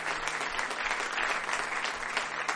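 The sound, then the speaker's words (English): A crowd at a church service applauds steadily, giving the Lord a hand clap in the morning: many hands clapping at once in a dense, sustained burst of even loudness that fills the whole stretch without pause. “Give the Lord a hand clap this morning.”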